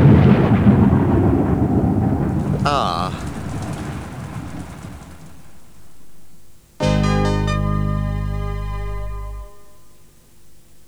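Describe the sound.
Deep rumbling thunder and a steady roar of heavy rain fill the first seven seconds, with a brief vocal exclamation, then a loud, sustained tonal chord abruptly cuts in and fades.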